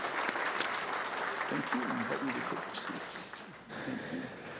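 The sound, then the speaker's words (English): A church audience claps steadily in gratitude for those serving among them, a dense wash of many hands that stays strong for several seconds, with a few voices faintly heard underneath before it briefly dips and picks up again. “Can we give a round of applause and gratitude for those who are serving among us?”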